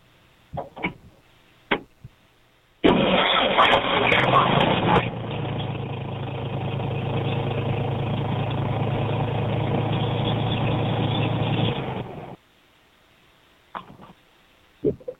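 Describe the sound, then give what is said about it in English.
A car's starter cranks with a harsh, loud screeching grind for about two seconds as the car is started, then the engine settles into a steady, droning rumble for several more seconds before cutting off abruptly. A few faint clicks come before and after. “But I guess that's got me wondering, do I need to lubricate the starter? Is it the starter that's screeching?”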